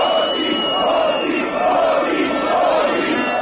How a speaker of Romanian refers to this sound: Peste 50.000 de oameni au ieșit din nou în stradă în București duminică seara pentru a menține presiunea asupra guvernului Grindeanu. În Piața Victoriei, mulțimea a format un tricolor uman, a scandat jos corupția și hoții.